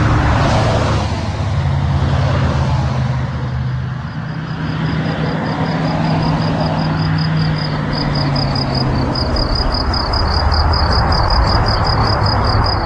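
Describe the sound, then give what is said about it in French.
Trucks rumble past on a road by Fernand's home, a continuous, loud roar of engines and tires, with a faint high rhythmic chirping joining in toward the end. “ça c'est chez Fernand, côté camion.”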